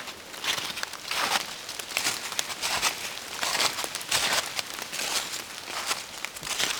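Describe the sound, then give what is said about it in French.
Steady footsteps crunch through dry dead leaves mixed with a few grains of snow in a broadleaf forest, a brisk rustling crackle with each stride in an even walking rhythm, no voices. “Tapis de feuilles mortes mélangées avec quelques grains de neige.”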